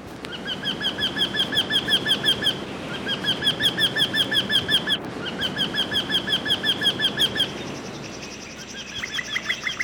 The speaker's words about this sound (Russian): В Тригорском парке много старых дуплистых деревьев. Видимо, в одном поселилась вертишейка, родственница дятлов. Ее призывный крик я слышал неподалеку от скамьи, где, по преданию, Онегин объяснился с Татьяной Лариной.